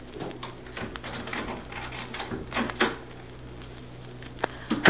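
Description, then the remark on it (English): A key scrapes and clicks in a lock with a few metallic rattles, then a door creaks and bumps open, with no one speaking. “Give me your key. I'll open the door.”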